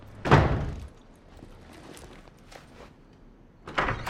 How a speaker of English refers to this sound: Mel stomps out the front door, and Joyce watches with an amused look.